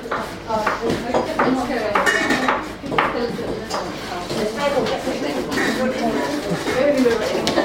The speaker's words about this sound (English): All around me there is chopping, there is grating, there is boiling of vegetables, and so many different things. Like it's potatoes, peppers, squash, carrot, courgette.